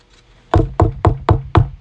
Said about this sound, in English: But see, Jesus stands at the door and knocks. And he asks, let me in.